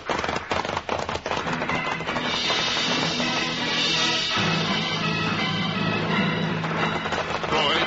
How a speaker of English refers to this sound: Push their horses hard, riding away from the narrow passageway, then up the steep sides of the mountain. Trigger leads the others, picking his way carefully to avoid the boulders, loose gravel, the hidden holes in fallen timber.